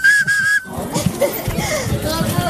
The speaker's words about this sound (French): Quand ma grand-mère, elle préparait de la soupe, eh bien pour nous intéresser aux légumes, etc., eh bien, elle nous faisait fabriquer des petits bonhommes et surtout des sifflets avec des carottes, avec des pommes de terre.